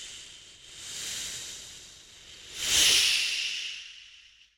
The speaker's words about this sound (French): Les gens d'ici l'appelaient le murmure des brumes. Il résonnait en toute saison dès que le vent se levait de la Manche pour se faufiler entre les blocs de granit de l'île, produisant ce sifflement sinistre